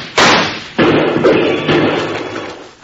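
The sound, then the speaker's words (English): Three loud gunshots, fired at 'those lizards', ring out at uneven intervals, each a sharp crack followed by a long, rumbling decay that fades before the next shot. No voices are heard. “Well, if that's the case, Bill, let's shoot at those lizards some more and shake up Rocky's hearing again.”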